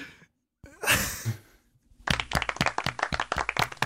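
A breathy, sigh-like burst of air, a short lull, then dense applause breaks out: many hands clapping in a rapid, crackling patter that stays loud and steady until the end.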